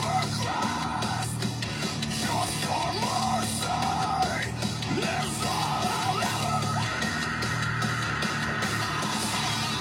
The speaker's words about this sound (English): Just keep screaming.